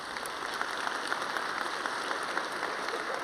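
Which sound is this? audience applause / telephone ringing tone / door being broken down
audience applause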